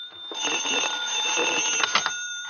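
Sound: telephone ringing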